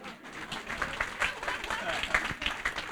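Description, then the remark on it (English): An audience applauds, a dense, steady wash of many hands clapping at a moderate level throughout, with murmuring crowd voices blended into the clapping. “You can applause.”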